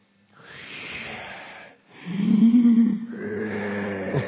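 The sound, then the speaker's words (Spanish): A voice mimics a man's loud, heavy breathing: a long rasping exhale, a brief pause, then a stronger throaty, snort-like breath that drags on, with no words spoken. “No, y se oye la respiración. De no, se oye, porque él tiene una respiración fuerte.”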